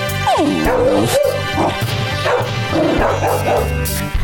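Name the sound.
puppies barking and yipping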